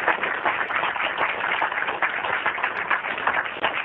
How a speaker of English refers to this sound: their commitment to wellness and representing Port Houston in such an incredible manner deserves that round of applause. So thank you.